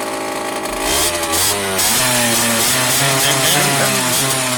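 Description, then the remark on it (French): A modified 50cc moped exhaust revs hard with a raspy, tinny buzz, its pitch climbing and dipping through several throttle blips. It stays loud throughout, with no one talking. “C'est bien métallique, ça fait un bon bruit de casserole.”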